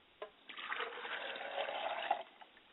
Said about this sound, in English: I pour a glass of water for my father, and I quench his thirst, and I say, Father, drink well.